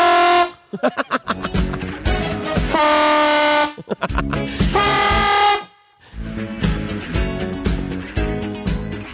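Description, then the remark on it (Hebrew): A huge semi-trailer truck's air horn, sounded on Road 4 by the truck driving behind the listener, blares in several long, loud blasts, its rich chord-like tone cutting off briefly between bursts before sounding again. “אני היום נסעתי בכביש 4, נסע מאחורי מסעית סימי טריילר ענקית, ופתאום הביאה לי צופר.”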